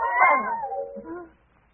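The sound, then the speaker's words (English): A single drawn-out cat yowl, loud, starting high and strained before sliding downward and trailing off after about a second. “Darn thing's moving in on it.”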